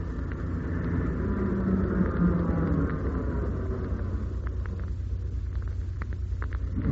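A lorry's engine rumbles steadily, a deep low drone with a harsh midrange growl that swells slightly then eases off as it drives past the end of the track without stopping. No voices.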